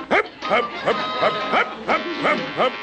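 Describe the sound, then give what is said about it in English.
A dog barks in a rapid, steady series of about eight sharp, yippy calls, fairly loud, with no one talking over it. “Even the dog has given me orders.”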